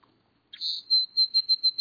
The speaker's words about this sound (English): You associate most birds' songs with spring and early summer if you live in a temperate climate. Birds like the song sparrow and the northern cardinal. But quite a few birds that don't migrate will keep singing, even just a little